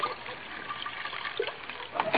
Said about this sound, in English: Cognac. Here's a cognac. I'll pour a little into your dish.